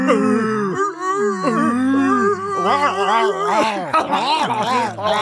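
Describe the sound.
A man's voice imitates a bear growl, making a continuous, strained, rumbling vocal noise with wavering pitch that rises and falls for several seconds, loud and without clear words.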